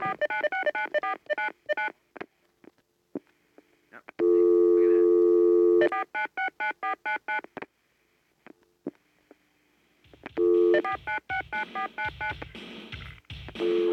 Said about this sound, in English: Goes back to dial tone.